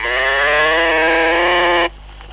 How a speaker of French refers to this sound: Alors voici un joujou qui parle, comme les animaux de la ferme. Le chien fait. La vache fait.